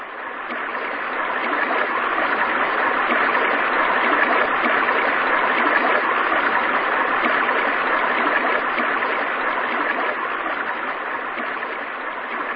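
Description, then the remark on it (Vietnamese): A small stream newly channelled from a lake flows steadily, its continuous bright rushing and babbling holding an even level throughout, fairly loud, with no voices. “Chàng vừa rửa kiếm vừa vui mừng nhìn dòng suối nhỏ đang chảy về.”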